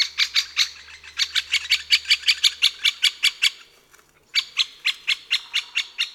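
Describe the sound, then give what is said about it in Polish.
A great spotted woodpecker gives a fast series of short, sharp, high-pitched calls, about three per second, clear, with a brief pause before the run resumes. “Podstawowym głosem dzięcioła dużego są wysokie, krótkie szczeknięcia, często wydawane w seriach.”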